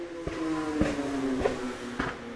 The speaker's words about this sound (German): Ihr hört, hier ist halt ein bisschen sehr viel Verkehr. Weil wir nehmen auf der Sekterrasse auf.